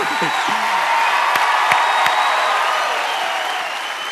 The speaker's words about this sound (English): Now, they clap that way because it really is a great honor to be a part of this One Prayer series with you.